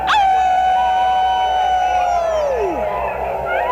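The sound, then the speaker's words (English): A loud, drawn-out howl from human voices imitating a dog howling at the moon, holding a steady tone for a few seconds before sliding downward, with other voices faintly joining near the end. “Are you ready to howl?”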